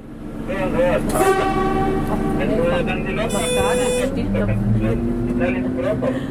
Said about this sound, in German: Es war eine Dieselloki, die 57 km von Bodio im Tessin bis Erstfeld im Kanton Uri gefahren ist. Das, weil es noch nicht überall Fahrleitungen hat. Die Fahrt war eine Extrafahrt für ausgewählte Gäste.